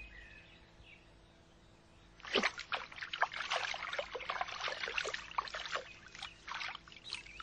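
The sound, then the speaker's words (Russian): A hamster pulls a cage out of a lake: water splashes and sloshes loudly starting about two seconds in, a burst of dripping, streaming water continuing unevenly to the end, with no voices. “Вытащил хомяк клетку из воды, вертит ею и туды, и сюды, что делать не знает.”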